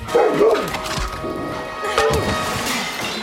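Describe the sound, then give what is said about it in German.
A dog yelps and barks in quick, agitated bursts after being kicked, its high whimpering cries rising and falling, with a sharp thud near the start and general commotion around it. “Wer unseren Hund tritt, kriegt's mit dem Teekesselchen.”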